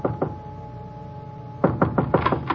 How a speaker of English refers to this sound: I went up the stairs, but when I knocked at his door...